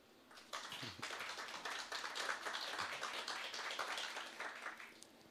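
Audience applause, a dense crackle of many hands clapping that starts abruptly, holds steady at a fairly even level for several seconds, then begins to thin out toward the end.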